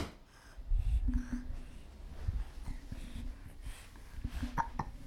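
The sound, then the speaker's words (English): A few short, sharp hiccups spaced irregularly, fairly soft, with faint rustling and handling noise between them and no talking. “Hiccups.”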